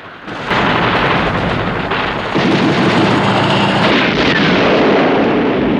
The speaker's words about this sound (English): As an army helicopter is blown up by the gun turrets, Bond drops a rope through the manhole and climbs down it.